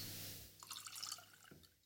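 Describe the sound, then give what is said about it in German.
Wine is poured into a glass, a brief run of soft splashing and trickling lasting about a second, quiet and with no voices. “Ich habe heute nur was eingeschenkt, weil ich trinke ein bisschen Wein.”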